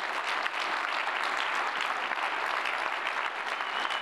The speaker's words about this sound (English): And I would just invite you, if you would, to give those men and women a round of applause who've served to put this together this week.